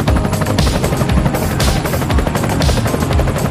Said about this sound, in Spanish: Es que el helicóptero que se ha quedado por ahí.